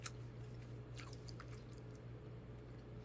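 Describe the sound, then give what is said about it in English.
Wet chewing of gum with soft smacking and squishing sounds repeating irregularly over a low steady hum, no talking. “But this is good gum.”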